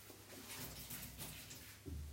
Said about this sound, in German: Mach einmal die Tür zu wieder.